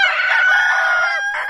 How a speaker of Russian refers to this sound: Я, однако, сделал и проверку, вечером снова вышел с секстантом, и ровно в полночь по Гринвичу мои петушки опять дуэтом.